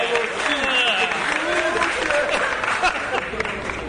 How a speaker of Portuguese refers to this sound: Ah, gente, um samba meu, uma salva de palmas pra mim.